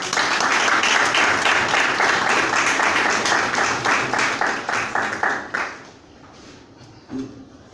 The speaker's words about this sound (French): Je souhaite d'abord qu'on applaudisse.